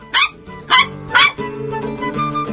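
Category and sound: animal, dog barking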